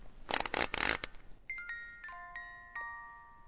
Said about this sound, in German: Karl spielte mit Ursulas Spieluhr.